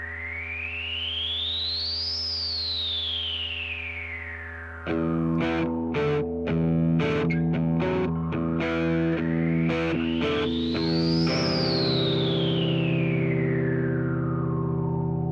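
A rock song cover plays: a distorted, effects-heavy tone sweeps up and falls back, then drums and a full band kick in with a steady beat while the pitch sweep returns. No singing is heard.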